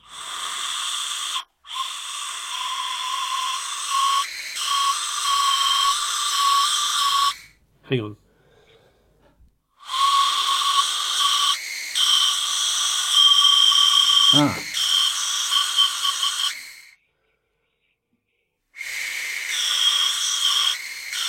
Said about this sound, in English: This is a flint whistle.